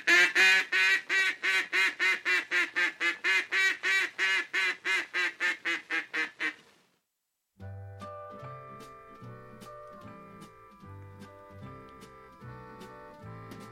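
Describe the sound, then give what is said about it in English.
A duck call on a 1940s–1950s duck call instruction recording blows a rapid, steady run of about twenty loud quacks. After a brief pause, music with low plucked bass notes starts. “So that was the duck call instructions”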